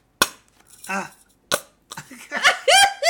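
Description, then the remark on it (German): A honey squeeze bottle lets out several short, sputtering fart-like squelches, fairly loud, with brief pauses between bursts and a longer wet rasp at the end. “Das ist Pupshonig.”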